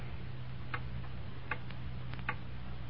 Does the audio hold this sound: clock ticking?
yes